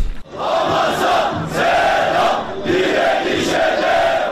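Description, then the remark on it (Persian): A large crowd at an anti-Israel demonstration in Istanbul, Turkey, chants loudly in unison, repeating a rhythmic slogan in regular surges roughly every second, the many voices blending into a dense, steady roar. “در شهر استانبول ترکیه هم تظاهرات ضد اسرائیلی برگزار شد.”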